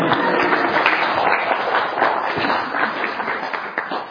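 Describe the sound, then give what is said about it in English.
A crowd at a meditation talk applauds an assistant in gratitude, steadily for about four seconds, a dense, even wash of many hands clapping at a fairly loud, constant level with no voices standing out. “And out of gratitude, can we have a round of applause for my assistant today?”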